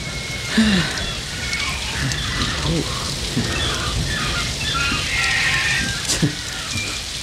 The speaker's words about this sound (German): Nur das Auto trennt uns vom strömenden Regen, giftigen Schlangen und anderen Gefahren, von denen wir keine Ahnung haben.